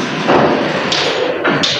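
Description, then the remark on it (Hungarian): Balls of a seven-ball Newton's cradle, swung to demonstrate it, knock together in a steady series of sharp clicking taps, repeating every half second or so, with no voices. “Golyók kedvesen kopognak, nem engedünk be senkit.”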